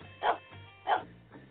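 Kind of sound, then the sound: animal, dog barking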